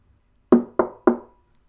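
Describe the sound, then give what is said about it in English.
Three firm knocks on a door, a knight knocking at a gnome's home, in quick, even succession, each a sharp hollow thud that rings out briefly before the next, with silence before and after. “The knight knocked.”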